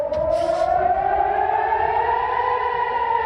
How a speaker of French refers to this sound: La nuit, les sirènes d'alerte ont retenti dans de nombreuses villes israéliennes, visées par plus de 300 drones et missiles iraniens.